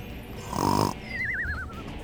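A single loud, rasping snore followed by a high, wavering whistle on the exhale, close and alone with no talking.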